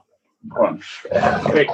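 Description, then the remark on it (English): Two puppies bark and whimper in a short, rough scuffle while getting too rowdy: a gruff burst, a brief higher whine, then a longer run of noisy, growly barking. “Dogs are going crazy.”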